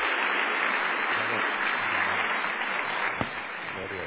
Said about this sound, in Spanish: ¿Dónde está mi hermano? Ah, quien trae palabras del Señor para nosotros. Un buen fuerte abrazo y aplauso.